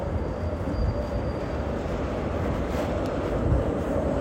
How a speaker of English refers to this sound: More trams. This one is new. And a bus.